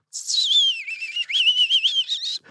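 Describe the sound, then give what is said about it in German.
A person whistles a bird-like melody imitating a blackbird's full-toned, solemn song: a long gliding phrase followed by a run of quick warbling notes, fairly loud, with no talking. “Und die Amsel, dieses volltönend feierliche.”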